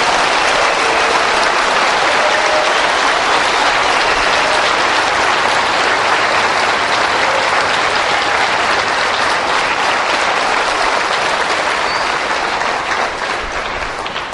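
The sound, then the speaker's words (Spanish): Loud, sustained applause from a large crowd for Benedict XVI at a gathering broadcast on radio, a dense wash of clapping that holds steady for several seconds before tapering off slightly at the end, with no voices standing out. “Y como esto se está transmitiendo por la radio, yo quiero que resuene en todas las emisoras que están retransmitiendo este encuentro, resuene un aplauso fuerte para Benedicto XVI.”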